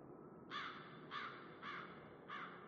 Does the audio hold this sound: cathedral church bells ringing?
no